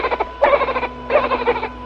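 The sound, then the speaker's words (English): Two nasal, squeaky high-pitched calls from a dolphin during a sonar test, with a buzzy, harmonic tone, each lasting under half a second and separated by a short gap, over a faint steady background hum. “They send off a high-pitched call, and they can tell by the way it bounces back from an object”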